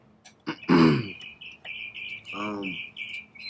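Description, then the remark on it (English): A bird in Pasadena sings a steady series of high, thin chirps and trills, broken by a couple of short, low throaty vocal sounds. “See, sometimes you just gotta be quiet and just let the bird sing.”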